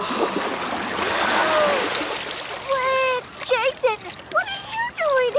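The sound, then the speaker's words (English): A burst of loud splashing, sloshing water fills the first couple of seconds as a person surfaces from underwater, followed by breathy vocal sounds and brief voices as the water settles. “Or she meant she was going underwater.”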